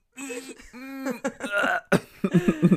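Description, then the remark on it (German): A voiced series of throat-clearing and coughing sounds, several rough bursts in quick succession with a sharper cough near the end, and no other sounds around them. “Oder wenn man husten muss, was mir auch manchmal hilft, ist einmal so zu versuchen, ganz ruhig und tief einzuatmen.”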